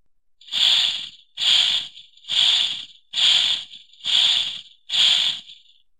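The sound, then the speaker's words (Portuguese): A voice makes six breathy swishing sounds in a steady rhythm, imitating a walk through tall, swaying grass. Each whoosh is fairly loud and evenly spaced, with no talking in between. “Oh, erva alta e ondulante. Não podemos passar por cima. Não podemos passar por baixo. Oh, não, temos de atravessá-la.”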